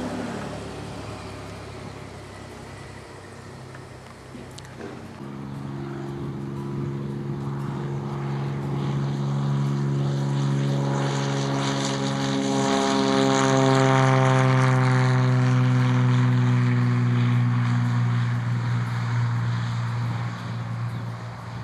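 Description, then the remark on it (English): A small propeller airplane of a mission aviation team in Papua New Guinea, flying again after repairs completed on April 25th, 2007, roars up to full power, kicking up dust, its droning pitch climbing as it accelerates down the runway for takeoff, loud throughout with no one speaking. “On April 25th, 2007, Steve completed the necessary repairs and the airplane was flying again.”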